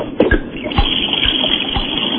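Water rushes steadily into a washing machine in a basement, a constant hissing flow with soft, regular low thumps about twice a second. Even in loudness throughout, with no voices.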